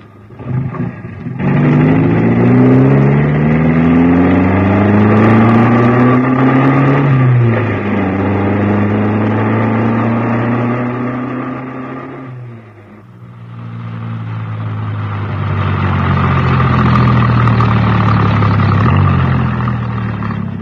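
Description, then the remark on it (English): A car engine turns over and pulls away, its loud droning hum climbing in pitch, dipping and climbing again through several gear changes. No one speaks. “I'll just get the ignition key.”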